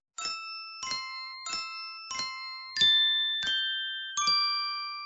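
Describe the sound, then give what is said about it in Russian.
Spoons tap icicles of different lengths hanging from a roof in seven evenly spaced strikes, forming a simple tune, each a bright, clear ring like a tiny crystal bell that hangs and fades before the next, the pitch shifting partway through. “Как будто кто-то звонил в маленькие хрустальные колокольчики. Дедушка заглянул за угол и увидел Морковкина. Тот стучал ложками по сосулькам”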